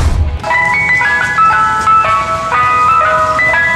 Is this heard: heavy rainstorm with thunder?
no